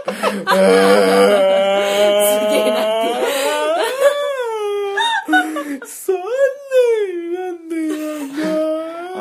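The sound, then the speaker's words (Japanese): A voice fakes exaggerated crying right up against the microphone, wavering wails and sobbing moans rising and falling in pitch, loud and continuous for several seconds. “唯一カットするとしたら、あの泣き声の部分いつもカットしてます。”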